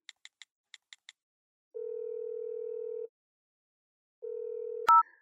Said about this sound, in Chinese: 把你手机给我，给你的女同学打个电话。